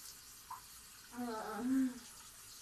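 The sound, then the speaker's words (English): A soft, steady hiss of shower water spraying runs throughout, fairly quiet, with a brief voiced murmur rising over it in the middle; the spray is aimed at the front of a person's body, the water trickling down. “I'm just spraying the front, and the water is kind of trickling down”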